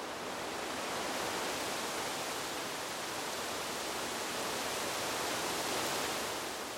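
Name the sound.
leaves rustling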